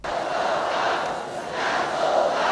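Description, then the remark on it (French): A frenzied crowd in a Van Damme film chants loudly in unison, calling out for the white warrior, a dense roar of many voices that surges, dips briefly, then swells again, continuous throughout. “La foule en délire commence à crier au nom de leur dieu blanc.”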